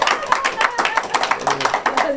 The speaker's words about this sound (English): All right, if y'all gonna clap now, don't patty cake. I wanna hear some real clap.